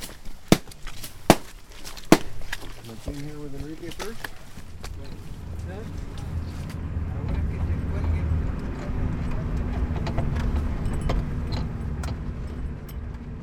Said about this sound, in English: It's afternoon now, and we're bouncing along mountain roads in a van that doubles as an ambulance.